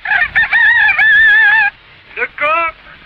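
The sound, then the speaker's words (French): A rooster crows loudly, one long wavering cock-a-doodle-doo followed by a shorter second call after a brief pause, with no talking. “Symbole de la France. Le coq, première marque de lame de rasoir française.”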